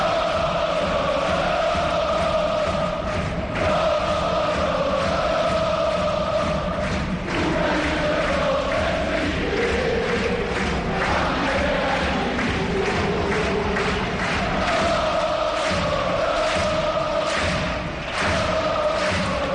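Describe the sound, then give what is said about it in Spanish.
A stadium crowd celebrates at the final whistle of Racing's 5-1 win over Almería with a loud, sustained roar, sung chants rising and falling over it and repeated thumping beats throughout. No single speaker stands out. “Final del partido. Alegría en la grada.”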